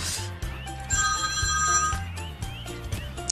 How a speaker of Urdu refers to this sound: اچھا موبائل میرا بجا.